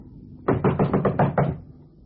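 knocking on apartment door

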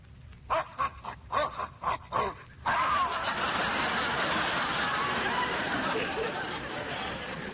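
dogs barking

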